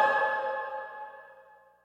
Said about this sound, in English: A little extra reverb at the end of that one.